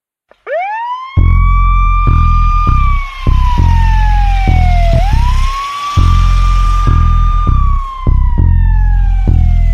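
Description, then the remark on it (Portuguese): A loud police siren wails in long rising and falling sweeps, backed by a pulsing low bass beat throughout. “Corre que vem viatura, louco na sua captura.”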